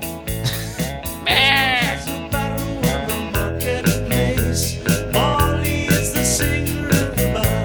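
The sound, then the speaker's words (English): A loud, rhythmic pop track with a steady thumping beat and a wavering, bleating goat-like voice that rises over the music in a couple of quavering bursts. “It just needs a goat.”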